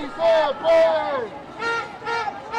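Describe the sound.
A crowd of demonstrators in downtown Dallas, Texas, protesting immigration policies, shouts the chant "Si se puede" in unison, four loud rising-and-falling bursts of many voices with a steady beat, the chant repeating over a low background murmur.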